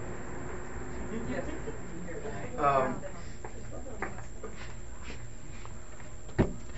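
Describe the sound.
A door swings shut with a short, sharp thud near the end, preceded by a brief shuffling rustle. People talk quietly around it.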